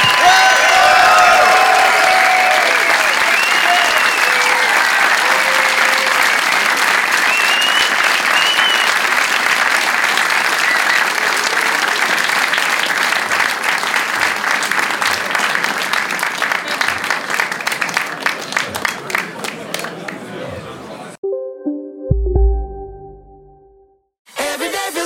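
A large audience applauds loudly for about twenty seconds, dense clapping mixed with some cheering and whoops, then thins into scattered claps before cutting off abruptly.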